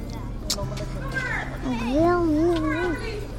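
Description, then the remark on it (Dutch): Children's voices call and chatter on a school playground as school reopens, over a steady low background hum, with one high, wavering child's voice rising and falling clearly above the rest. “En dus zijn we onderweg naar het schoolplein.”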